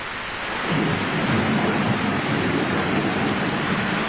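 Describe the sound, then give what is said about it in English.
Heavy rain pours down in a steady, dense hiss that swells in over the first moment and then holds constant, with a low rumbling undertone and no voices. “I ran through the rain.”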